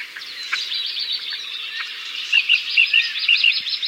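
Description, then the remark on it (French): Small birds chirp and sing in a dense, overlapping chorus, with bright high twittering and a run of quick repeated tweets toward the end. No voices. “Bon, alors vous allez me dire, oui, bon, c'est les petits oiseaux, sauf que dans votre voix, Morad Aitabouch, pour vous, ça a une signification très particulière.”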